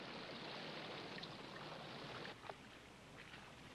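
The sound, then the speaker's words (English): Steady rushing water, then a quick light splash as ten pennies and one Spanish doubloon are tossed into it, followed by a quieter, gently lapping surface. No one speaks. “I'm going to toss them all into the water like so.”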